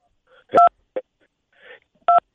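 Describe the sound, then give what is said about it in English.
Two distinct dual-pitched phone keypad touch tones, pressed by a caller to the Grace Curley Show, beep about a second and a half apart, short and fairly loud, with faint muffled phone-line noise and a brief thump in between. “you got you're hitting your phone there.”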